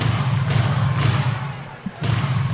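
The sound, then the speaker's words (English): A baseball crowd at Clover Park yells and roars in a steady, dense wall of noise, dipping briefly before surging back to full volume. “And they have ignited this crowd. Listen to them yell here at Clover Park.”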